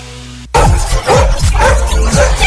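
After a brief low hum, loud dog barking breaks out suddenly, several rapid, energetic barks in quick succession, filling the rest of the moment.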